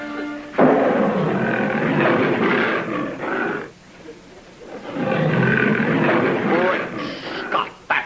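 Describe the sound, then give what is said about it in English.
Two long, loud lion roars played from a wild animal record, each a deep rumbling bellow lasting about three seconds, separated by a brief pause, with a few shorter grunts trailing off at the end. “How about playing your wild animal record so it'll be like we're camping out in the jungle?”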